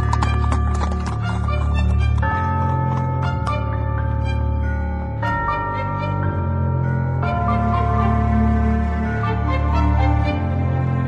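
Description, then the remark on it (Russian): Horses drawing a kibitka (covered carriage) gallop off after the coachman whistles, hooves clip-clopping in a quick, steady rhythm, loud throughout, over a sustained musical backdrop. “Слуга вскочил на облучок, ямщик свистнул, и лошади поскакали.”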